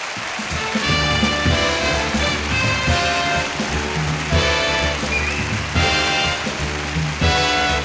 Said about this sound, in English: Well, you're a wonderful audience, and we love that applause.